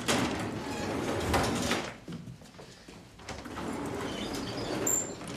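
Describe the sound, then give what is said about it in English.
Heavy wrought-iron lift doors rattle and scrape open with a broad metallic clatter as people come out, easing into a quieter pause before another sustained grinding slide, moderately loud, with no talking. “They come out of the heavy wrought iron lift doors.”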